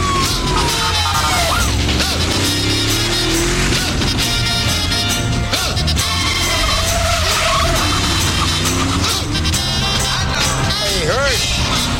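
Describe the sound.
A car roars past at speed with tires squealing and skidding, loud, while engine noise and a busy background rumble continue throughout, with some voices faintly mixed in.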